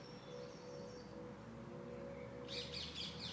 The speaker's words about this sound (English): I think that's a parakeet. Can you see that bird that's making all that noise? There's so many trees up here, so we've got the camouflage in the trees. I think it's a parakeet. They're the ones I told you about. They're not native to this country.